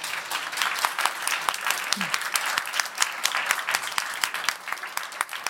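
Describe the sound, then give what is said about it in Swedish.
A live audience at a live recording applauds on request after a count of three: dense overlapping hand claps at a fairly loud level for several seconds, with no one speaking over it. “Och bästa sättet att höra en publik är ju om ni applåderar.”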